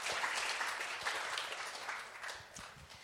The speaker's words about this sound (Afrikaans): So ons kan sommer vir Johan in sy afwesigheid lekker hande klap gee.